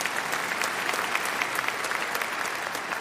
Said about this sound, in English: Now, yeah, you can clap for God.